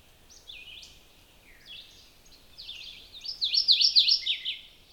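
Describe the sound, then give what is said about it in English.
A brush-skulking warbler sings a loud, rapid song of bright, high whistled phrases that build in strength and become most intense near the end. No voices, with only a quiet background. “Again, they're another brush skulking warbler, but if you get a look, there's a lot of yellow on the front.”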